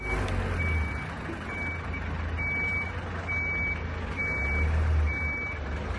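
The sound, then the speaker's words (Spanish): A garbage truck's reversing alarm beeps repeatedly in a steady rhythm, a high-pitched tone sounding about six times over a loud, rumbling diesel engine, as the truck turns around on a private ramp off Calle Aurelio Aguirre, a one-way street beside the campus in Someso. “Es el sonido del camión de la basura, pasa en la calle Aurelio Aguirre, una de las vías situadas al lado del campus del Viña.”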